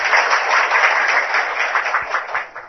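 A crowd at a Buddhist dharma class applauds to thank four fellow practitioners who asked questions, many hands clapping in a dense, continuous patter that holds at a fairly loud level before tapering slightly at the end. No voices are heard.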